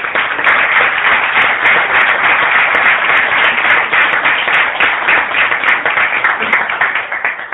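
Sustained applause from a crowd for the speaker's sister, who handled the accounts for the speaker's book, a dense steady wash of many hands clapping at once, loud and even throughout with no voices standing out.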